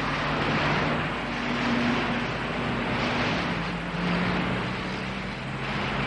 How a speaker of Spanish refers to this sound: espera para cruzar una carretera de varios carriles con mucho tráfico.